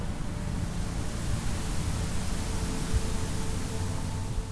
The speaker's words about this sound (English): If zero could make a sound, what would it be? Oh. that's a very good question. White noise.